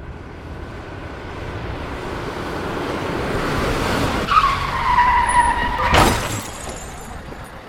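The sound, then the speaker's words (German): A large Taunus car on a slippery road in December: engine and road noise build up, then tires screech in a sustained squeal before a single loud crash near the end as the car is wrecked, followed by a fading rumble. No voices. “Sicher glatt draußen und ein so großes Auto bei solchen Witterungsverhältnissen unter Kontrolle zu halten, ist gar nicht so einfach.”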